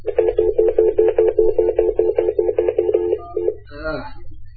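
A fast, even run of about fifteen touch-tone beeps as a phone number is dialed, followed by a brief warbling electronic burst, all over a low steady hum.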